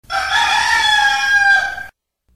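rooster crowing

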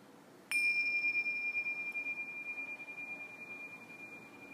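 meditation bell ringing

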